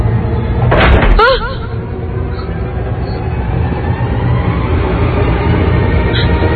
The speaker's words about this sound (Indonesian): buka pintu kamar mandinya.